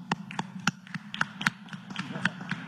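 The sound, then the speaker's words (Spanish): Scattered, irregular hand claps from a small group, applauding the Judges' Association's decision to return to work, sharp and fairly quiet, repeating unevenly for a few seconds over a steady low hum. “La Asociación de Jueces, que por cierto ya decidieron regresar a trabajar. Un aplauso.”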